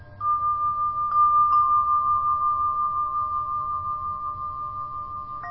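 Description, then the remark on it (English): Tibetan bells ring out with a bright, pure high tone, struck once and then touched again briefly, the shimmering note sustaining steadily and fading only slightly over a soft low hum. “Now let's tune in to the Tibetan bells again.”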